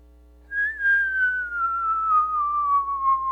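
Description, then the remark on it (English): A single high-pitched whistle of an incoming mortar, getting closer, sliding slowly and steadily downward in pitch for about three seconds, fairly loud and clear, with no impact or explosion following. “And then we hear a noise, and I wanted to find the noise, but I'm hard of hearing, and so I really couldn't hear this noise now if it was going to happen, but it's a really high-pitched whistle.”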